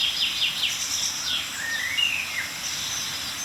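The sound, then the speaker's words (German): Thin, high-pitched contact and mild alarm calls from several tits around the listener, short chips and a few rising notes, scattered over a steady insect-like hiss in quiet woodland, soft. “Aber wir hören ein paar Kontaktrufe oder milde Aufregungsrufe einiger Meisen um uns herum.”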